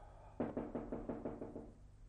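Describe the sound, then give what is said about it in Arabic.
Knocking on the door of Shakespeare's room in a stage play scene, a quick run of about seven evenly spaced raps that start abruptly, sound crisp, then trail off slightly, with no voices around them. “ينقر على الباب مرة أو مرتين في البداية دون أن يتنبه الشاعر لوجوده”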